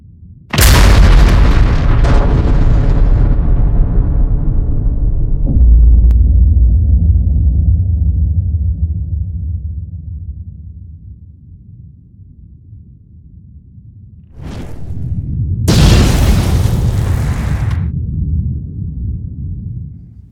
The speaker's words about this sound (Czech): Tedy až do toho 16. července 1945, kdy proběhl první pokusný jaderný výbuch bomby s názvem Trinity, tedy Trojice.